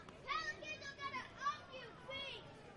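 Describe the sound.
Several young children at a Green Jackets baseball game chatter and call out in high, excited voices into a crowd microphone dangling over their heads, their overlapping speech rising and falling over a steady background murmur for a few seconds.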